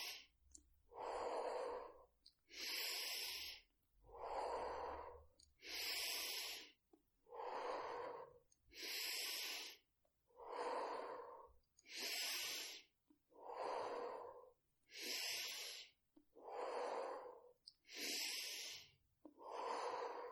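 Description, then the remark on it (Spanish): Slow, steady breathing in and out, paced as a rhythm for a guided breathing exercise, each breath a loud, airy rush with brief pauses between, repeating evenly about a dozen times with no talking. “Inhala, exhala, inhala, exhala, inhala, exhala, inhala, exhala, inhala, exhala, inhala, exhala. Sigue respirando a este ritmo marcado por mi propia respiración.”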